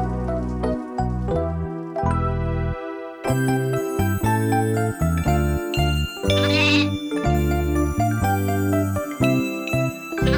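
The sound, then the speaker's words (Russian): A young goat bleats repeatedly, loud, its wavering cries coming in quick succession over a light tinkling jingle, with no one talking. “У меня живет козленок, я сама его пасу.”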